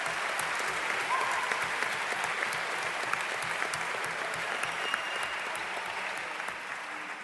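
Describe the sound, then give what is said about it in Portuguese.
An audience at the Parlamento dos Jovens (Youth Parliament) claps steadily for several seconds for the journalists and services, a dense, even wash of many hands that holds loud throughout and eases slightly toward the end, with no voices over it. “E é para eles também que eu pedia uma salva de palmas todo o trabalho que realizaram.”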